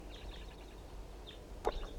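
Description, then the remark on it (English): A bird, K6, just after its release, gives a few faint, high, short chirps over a steady low rumble, followed by a brief sharp knock near the end. “That's bird K6.”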